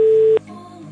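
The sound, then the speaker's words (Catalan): A steady electronic telephone ringing tone sounds for a moment while a call is being placed, then cuts off, leaving a faint low hum on the line. No one speaks. “Si us plau, agafa el telèfon.”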